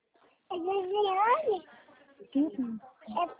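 A baby vocalizes during a phone call: one drawn-out, wavering cry-like coo, then after a pause a few shorter babbling bursts, with no one talking over them.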